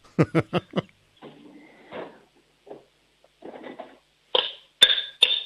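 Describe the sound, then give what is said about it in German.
A spoon bangs on a cooking pot four times in quick succession, followed by clattering and rummaging, then a few louder metallic clangs that ring briefly. Fairly loud, with no talking. “Lauf mal in die Küche, hol dir einen Kochtopf und einen Löffel und dann schlägst du mal mit dem Löffel auf den Topf drauf.”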